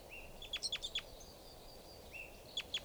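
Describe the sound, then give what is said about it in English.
A single lone female bird gives a short, high-pitched series of sharp chirping calls, then pauses and repeats a briefer burst, heard clearly over a low background hiss with no talking. “Here's a lone female.”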